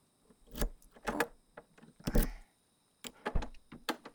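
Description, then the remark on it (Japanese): A key rattles and clicks in a lock, followed by a louder scraping clunk as the door opens, then a few more sharp metallic clicks, fairly quiet with no talking. “鍵開けるからちょっと待ってて。”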